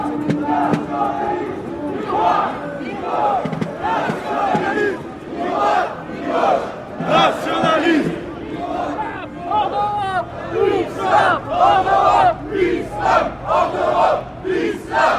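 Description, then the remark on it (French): A crowd chants slogans of the Parti nationaliste français in loud, rhythmic bursts, voices rising and falling together in a steady cadence, with a harsher voice through a megaphone, that of an activist, leading the calls over the massed shouting. “Celui qui a le porte-voix, qui lance les slogans du Parti nationaliste français, justement, c'est …, un ancien du FN”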